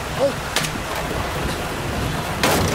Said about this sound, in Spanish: ¿Qué es ese ruido? Es el río.